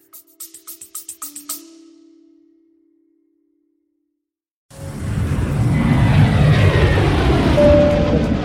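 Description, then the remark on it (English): A loud, steady low roar of jet engine noise inside a private jet cabin fills the second half, following a short rhythmic musical sting and a few seconds of silence. No one speaks. “Hey guys, yes, I'm on a private jet”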